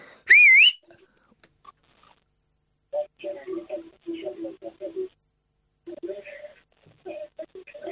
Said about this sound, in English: He's listening to Talk Sport. It's Talk Sport.